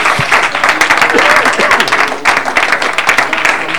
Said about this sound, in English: Clap your hands to the Lord, somebody.